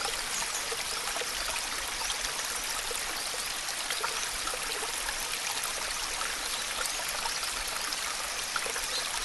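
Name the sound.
flowing stream water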